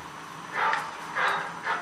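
A small dog barks three times in short, high-pitched yaps spaced roughly half a second apart, moderately loud over a steady background hiss, with no one talking.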